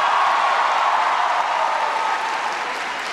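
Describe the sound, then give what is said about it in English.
A crowd applauds loudly and steadily for introduced players, including quarterback Devin Gardner and Big Ten Player of the Year Nick Stauskas, a dense wash of many hands clapping that holds for about three seconds and eases slightly toward the end. “Give them a bigger round of applause than that.”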